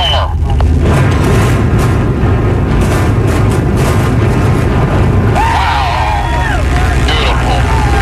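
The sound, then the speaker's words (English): Explosive demolition of the Kingdome stadium in Seattle, its 5,500 drilled holes mostly filled with explosives, heard from about a mile away: a loud, continuous roar of rolling booms and rumble that rattles the ground for about five seconds, then a softer rumble with wavering whistles and faint crowd voices. “There are 5,500 holes drilled in that building right now. Most of them are filled with explosives.”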